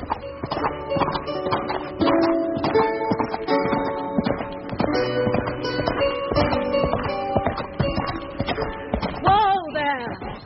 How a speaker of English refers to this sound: As I pass beneath it, my heart beats strongly. That must be my Frenchman's prison. Perhaps he can hear the sound of my horse.